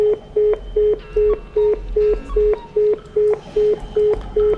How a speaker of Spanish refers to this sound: Rin, rin, vamos a llamarle para preguntarle.